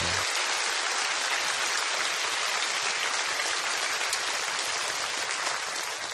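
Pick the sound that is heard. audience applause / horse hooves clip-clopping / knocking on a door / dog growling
audience applause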